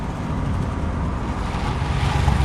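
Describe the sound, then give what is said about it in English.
A steady, low rumble of a car driving through nighttime streets, with road noise and engine hum holding at an even level throughout and no voices. “Later, he sits glumly in the passenger seat of Wendell's car as they drive through nighttime streets.”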